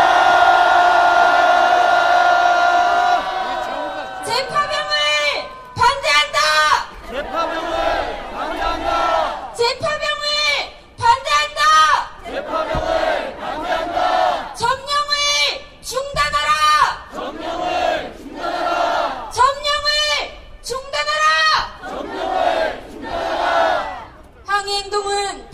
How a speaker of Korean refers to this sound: 힘차게 함성 한번 질러봤으면 좋겠습니다. 함성 시작!